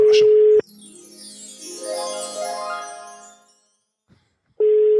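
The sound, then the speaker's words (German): A steady, mid-pitched telephone ringback tone of an outgoing call sounds at the start and returns at the end, separated by a shimmering, chime-like sweeping melody and a brief silence. No one speaks. “Es klingelt aber schön.”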